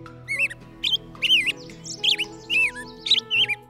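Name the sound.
birds chirping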